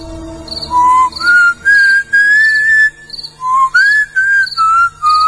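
A person whistles a simple melody, clear pure notes rising and gliding in two short phrases separated by a brief pause, with no talking.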